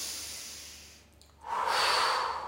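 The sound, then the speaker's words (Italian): A slow, deep breath drawn in through the nose and mouth during a breathing exercise, standing with hands on hips, a soft airy hiss that pauses briefly, then swells into a louder, fuller inhalation. No talking. “Inspiro,”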